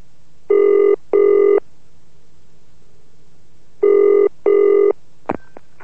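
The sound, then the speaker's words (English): A telephone rings twice in a double-burst pattern, each ring a pair of short buzzing trills with a pause between, followed by a sharp click as the handset is picked up. “Listen to a more authentic version of the phone call.”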